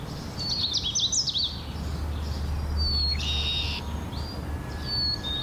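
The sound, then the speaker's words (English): A Canada Warbler's rich, warbling song rises in quick, rolling phrases, followed by a few thin, steady whistled notes, set against a low, constant outdoor rumble. “The Canada Warbler has a rich warbled song.”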